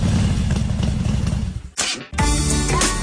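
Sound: motorcycle engine revving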